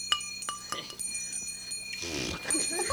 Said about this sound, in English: And then you heard a bell. Silver bell.